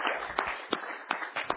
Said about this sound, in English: I'm worth clapping for.